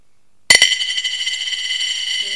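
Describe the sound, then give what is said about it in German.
A small 10-cent coin strikes a hard surface with two or three quick clicks, then rings on with a bright, high metallic shimmer that holds steady for about two seconds, with no voices. “Welche Münze war das? 10 Cent.”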